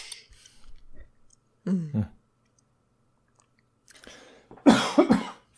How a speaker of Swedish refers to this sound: Jag sitter där och hostar och försöker bara lyssna.